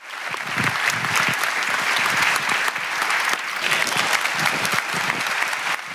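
Sustained applause from an audience greeting Don Fabio Attar, the new Rector Major of the Salesians, a dense, steady wash of many hands clapping at an even loudness for several seconds, with no voices standing out.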